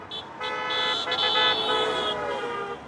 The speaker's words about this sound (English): He's standing with his mom and younger brother, alongside more than 100 other Juneau residents who joined the so-called Good Trouble protest along downtown Juneau's busiest road during rush hour traffic.